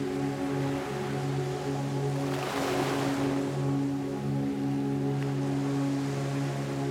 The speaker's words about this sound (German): Stell dir vor, du erwachst an einem Strand auf einer Decke, die im weichen Sand liegt. Das beruhigende Schwappen gleichmäßiger Wellen dringt an dein Ohr.